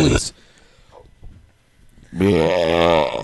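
A long, loud, forced burp, deep and rumbling, rings out for about a second after a short burst of sound and a quiet pause.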